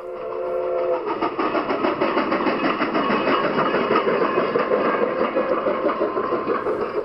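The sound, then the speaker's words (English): The Durango and Silverton narrow gauge steam train pulls into Silverton, Colorado, loudly, its whistle sounding briefly at the start before giving way to a steady, rhythmic chuffing and rumble of the engine. “That's the sound of the famous Durango and Silverton narrow gauge train arriving in Silverton, Colorado.”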